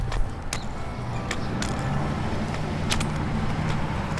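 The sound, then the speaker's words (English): Heavy trucks rumble past from right to left on a street, a steady low engine drone with scattered clanks and rattles over the roar, continuous, with no voices. “Now you see some trucks in the stereo image from right to left.”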